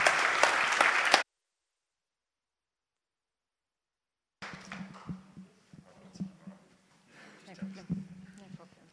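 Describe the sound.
A crowd applauds in a loud, dense burst of clapping that stops abruptly after about a second. A few seconds of silence follow, then a single voice begins speaking.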